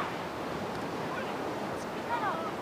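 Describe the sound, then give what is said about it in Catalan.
Steady, continuous wash of ocean surf on a beach, a dense hiss of breaking waves throughout, with a few faint high calls near the end. “va sortir a fer un tomb per la platja.”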